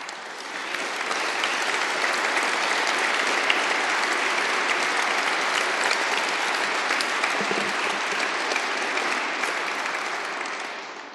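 Sustained applause from a large audience at an award ceremony, honouring prize winners as they stand, a dense steady patter of many clapping hands that swells in and holds for about ten seconds before easing off slightly at the end.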